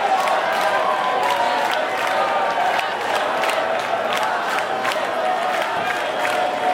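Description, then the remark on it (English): A large crowd at a sold-out concert cheers and claps steadily after the band's last song, people leaping up and clapping with their hands in the air; a dense wash of applause with whoops and shouts rising through it, loud and sustained without a break. “This sold-out show just from in front of the soundboard, about 10 feet forward from that onward, everybody was just leaping up, clapping with their hands up in the air.”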